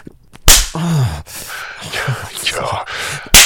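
Two sharp, loud slaps on skin, one near the start and one at the end, separated by breathy gasps and vocal sounds from a person.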